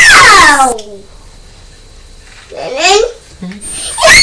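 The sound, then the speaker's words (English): A voice imitates the meow of the blue cat from the Bob the Builder video, giving two drawn-out, wavering meows with a quiet pause between them, followed by a brief bit of vocal sound at the end. “Oh, are you saying blue puss meow?”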